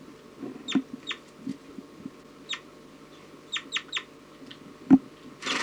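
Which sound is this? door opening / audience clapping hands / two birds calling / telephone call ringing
two birds calling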